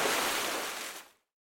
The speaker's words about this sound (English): Cannonball!